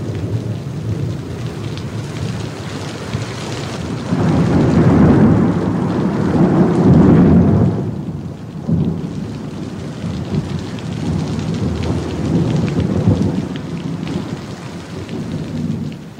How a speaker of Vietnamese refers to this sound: Nhưng nửa đêm, nổi cơn mưa lớn.